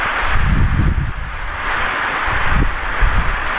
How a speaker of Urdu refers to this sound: پنکھے کچھ ایسے ہیں بعض جن کی آواز بہت زیادہ, وہ بند کرنے پڑ رہا. ایک دو پنکھے ایسے ہیں جن کی آواز سب پر حاوی ہے.